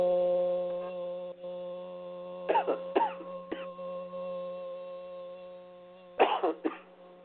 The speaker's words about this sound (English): Very good. The coughing is the release of the throat chakra. Continue to clear the throat and let the music in.